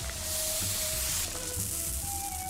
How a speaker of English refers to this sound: Hold on, I gotta dump out my shoes.